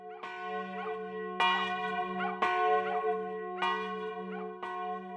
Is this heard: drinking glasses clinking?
no